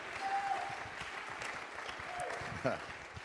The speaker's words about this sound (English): Somebody give God some praise. Clap your hands to him.